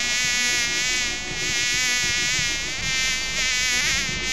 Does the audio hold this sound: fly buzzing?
yes